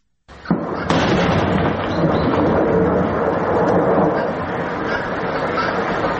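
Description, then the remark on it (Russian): A quarry blast in Crimea erupts abruptly from silence with a second sharp crack a moment later, then a loud, broad rumble rolls on steadily for several seconds without fading much. “Это взрыв в карьере.”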